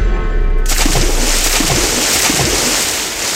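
A series of heavy splashes, one after another, as Jewish travellers are thrown overboard by pirates from a ship in the middle of the sea, over a steady loud roar of sea and wind. Noisy, with no voices.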